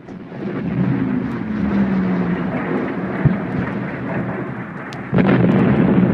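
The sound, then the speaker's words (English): A jet fighter roars past in a loud, continuous rushing rumble that holds steady for several seconds, then swells even louder with a sudden surge near the end. No one speaks. “If you listen real closely, there's a jet fighter sound.”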